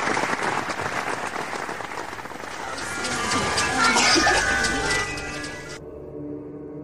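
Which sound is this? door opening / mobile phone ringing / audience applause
audience applause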